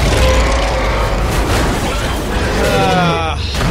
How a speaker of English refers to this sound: Tons of explosions, overly long.